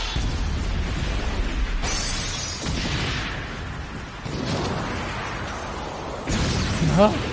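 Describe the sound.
A loud, rumbling explosion sound effect with crackling debris, swelling in several heavy bursts over a few seconds, and a brief voice rising at the very end.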